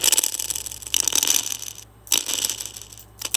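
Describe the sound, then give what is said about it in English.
A dog's hair, which has some tangles and knots, being brushed: continuous scratchy, hissing strokes of bristles through fur, repeating in steady sweeps with two brief pauses, fairly loud and with no voices. “That's me brushing the dog's hair.”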